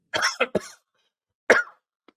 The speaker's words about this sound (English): You're not mistaken, and I'm coughing here.